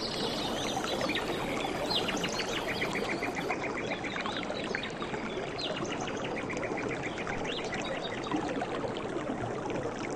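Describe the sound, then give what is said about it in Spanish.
A forest river flows steadily with a constant rushing wash of water, while birds chirp and call repeatedly over it throughout. No one speaks. “Pues como a mí, seguramente te gustaría estar ahí, meter los pies en el agua, respirar fuerte, expirar el aire puro del bosque, escuchar el río, los animales.”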